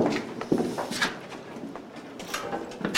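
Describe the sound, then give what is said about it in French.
A heavy armored door of a shelter being worked open, with metallic scrapes and several sharp clanks spread over a few seconds. Nobody speaks. “Avec les portes blindées.”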